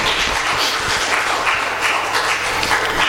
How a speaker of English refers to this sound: You know, it's not for me you're clapping.